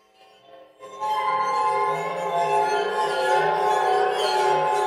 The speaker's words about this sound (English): Yeah, it's a water phone where they always play that as like the spooky sound, but it sounds like they're really rocking out on it, like getting a little excited there.